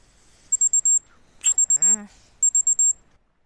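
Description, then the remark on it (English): A morning wake-up alarm clock beeps in three bursts of rapid high-pitched pulses, loud, while a person groans briefly over the second burst. “Oh, the alarm.”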